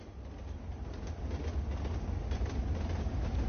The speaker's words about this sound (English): It's a train.